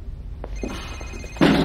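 cell phone ringing

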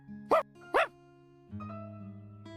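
dog barking

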